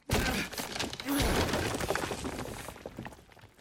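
A wall being hammered in, a loud crash followed by a few seconds of crumbling, rattling debris that gradually fades.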